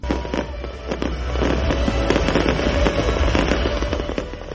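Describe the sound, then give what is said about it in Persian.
Fireworks welcoming the new year 2008 explode in a dense, continuous barrage of loud bangs and crackles over a steady low rumble, with no pauses between bursts. “و مردم در سرتاسر جهان از سال 2008 میلادی با آتش‌بازی و دیگر مراسم استقبال کردند.”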